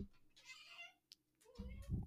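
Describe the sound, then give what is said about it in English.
A female cat lets out a short, fairly quiet meow with a drawn-out, wavering tone, followed by a brief chirp and a low rumbling thump at the end. “the cat's here to add her 2 cents towards the end.”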